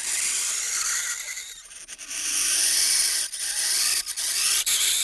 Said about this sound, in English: This is pressing a penny really hard into the ice.